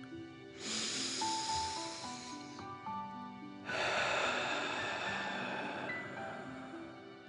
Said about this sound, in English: And let's take three more deep dragon breaths. Remember to breathe in through your nose, filling up your chest and belly, and then out, pretending you are breathing fire. Deep breath in and out.